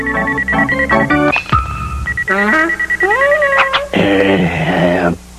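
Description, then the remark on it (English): A run of electronic car phone dialing tones: beeps that step between pitches, followed by wavering, warbling electronic notes and a buzzy burst, loud with no pauses for several seconds. “It's even got a car phone.”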